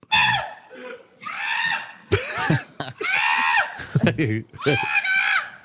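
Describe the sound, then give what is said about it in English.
A woman screams at a charging runaway goat on Detroit's west side, in a series of loud, high-pitched shrieks, several bursts in quick succession with brief gasping breaks between them, frantic. “A now viral video shows the moment the goat met a neighbor. Listen to the neighbor scream.”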